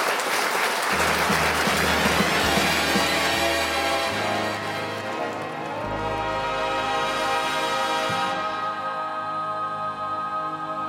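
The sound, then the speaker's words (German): Loud, sustained applause from an audience in a coffee bar and restaurant in Chur, dense clapping for about ten seconds, with a steady musical tone running underneath and no talking. “So, der tosende Applaus ist aus dem B12 gekommen, Kaffeebar und Restaurant zu Chur.”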